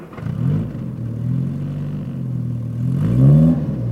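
A new car's engine rumbles and revs up, the pitch climbing toward the end as the vehicle pulls up, with no voices over it.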